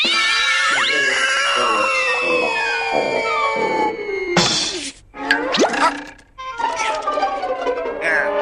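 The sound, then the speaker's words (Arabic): Loud, drawn-out meows and caterwauling from a thieving cat, with wavering, sliding pitches, several cries overlapping at first, then a short break followed by sharper yowling bursts. “تخلص من هذا القط اللص يا دبس.”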